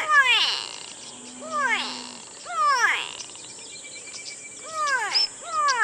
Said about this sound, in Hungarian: A barna lármás madár kiváló szórakozás, akár baráti összejöveteleken is.